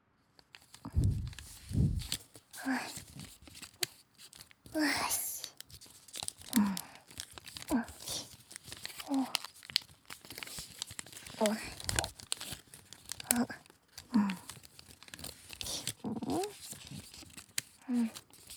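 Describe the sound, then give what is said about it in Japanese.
Paper sounds: a finger slides along a fold in folded origami paper in repeated soft swishes, mixed with crisp crinkles and rustles as the sheet is handled, with occasional quiet voice sounds. “髪を折ってスーってなぞる音。落ち着ける気持ちのいい音だよね。”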